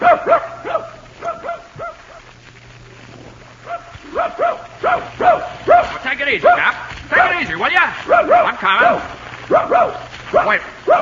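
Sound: dog barking excitedly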